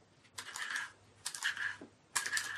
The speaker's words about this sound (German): Bruno kratzt auf dem Pergamentpapier herum.